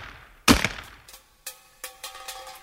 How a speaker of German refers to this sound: Wie haben die Leute denn die Dosen früher aufgemacht? Vielleicht haben die Soldaten sie ja mit einem Gewehr aufgeschossen.